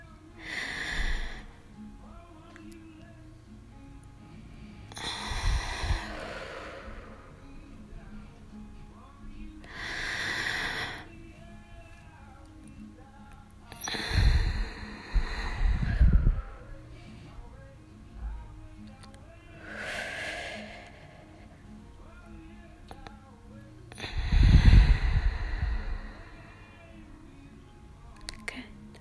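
Slow, deep breaths during a guided relaxation exercise repeat about every five seconds, six airy whooshes in a steady rhythm, a few carrying a soft low puff, with quiet gaps between them and no talking.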